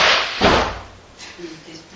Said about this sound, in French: Elle a pris la décision de tomber, la chaise, la table, je ne sais pas quoi. C'est tombé.